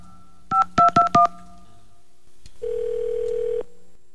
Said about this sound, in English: Now, another world-famous Mojo Joe in the Morning phone scam. You do the dialing, I'll do the talking.